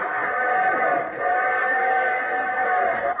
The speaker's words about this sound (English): What's that, Daddy? It's a train whistle. I want one. Oh, don't be ridiculous. You can't have a train whistle.